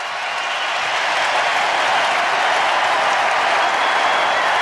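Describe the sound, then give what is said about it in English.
A big arena crowd at a basketball game roars and applauds in a loud, steady ovation for Clay Thompson as he goes to sit down, dense clapping and cheering sustained without a break for the whole stretch. “Clay Thompson to sit down, listen to the ovation for Clay.”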